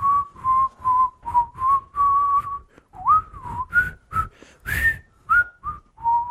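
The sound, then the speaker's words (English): A person whistles a bright, wandering tune of short repeated notes and slides, clear, with no talking, lasting several seconds with brief pauses between phrases. “I mean, she seemed to say that they like to whistle while they work.”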